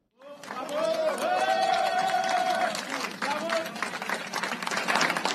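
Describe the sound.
A dense, steady wash of audience applause, loud from start to finish, as the lead negotiators for the internationally recognized government of President Abdrabu Mansour Hadi and the Houthi delegation shake hands before the UN Secretary General, with a voice rising over the clapping and crowd noise.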